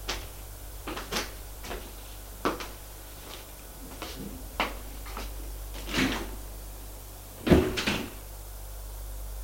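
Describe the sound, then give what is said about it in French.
Elevator doors in an apartment building clunk and rattle in a series of sharp mechanical knocks over a steady low motor hum, ending with a louder clattering burst as the doors move again. No one speaks. “Il va prendre son ascenseur.”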